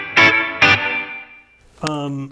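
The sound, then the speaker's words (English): An electric guitar played through a short plate reverb effect strikes two bright chords, each ringing out into a short, shimmering reverb tail, followed by a single sustained note, all fairly loud. “A plate reverb. Yeah, short plate.”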